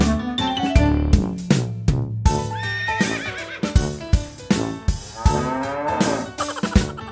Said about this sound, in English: The cows on the farm say moo, moo, moo.